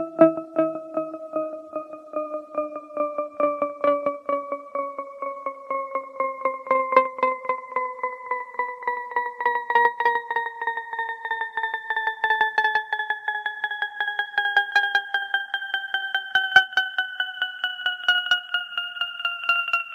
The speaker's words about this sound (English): Here's a hint, it's called the falling bells illusion. The answer in this case is both. The tones smoothly drop in pitch, but each successive tone starts at a higher pitch.